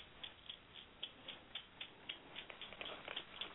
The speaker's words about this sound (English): It's a clock.